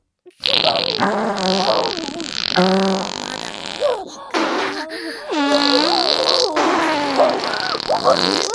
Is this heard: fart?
yes